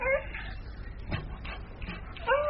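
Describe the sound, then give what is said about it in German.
A dog whimpers in short, high whining bursts at the start and end, with quieter shuffling and faint indistinct sounds in between, moderately loud. “Emma, woher kennst du den Hund?”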